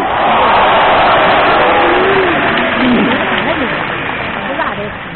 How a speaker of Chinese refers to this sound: 谢谢，谢谢大家给我一个人的掌声。俩人上台给一个人的掌声，再拍是给你拍的。